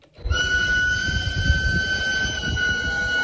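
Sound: locomotive whistle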